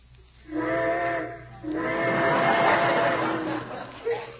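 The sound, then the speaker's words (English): A steam train whistle blows twice, a short blast then a longer, louder one, with steady hissing beneath, heard on its own. “Trains, how I love them.”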